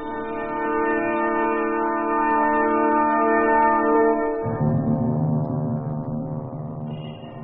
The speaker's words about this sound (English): We are fortunate to hear Big Ben, comrades. Big Ben's chimes had not been ringing for some time.